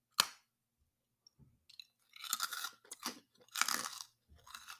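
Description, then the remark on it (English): A sharp crack of a bite into a crunchy, log-shaped honeycomb candy bar in the regular flavor, followed by several loud crunching chews in irregular bursts, with no talking. “Okay, very crunchy.”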